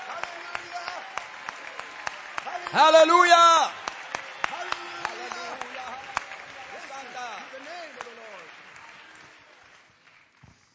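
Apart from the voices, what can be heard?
audience clapping hands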